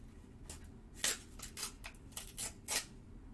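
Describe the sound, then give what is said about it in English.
Gift wrapping paper is torn off a present in a series of short, rasping rips and crinkles, irregularly spaced and fairly quiet, with no one talking. “God, it's not that fucking hard to get paper off.”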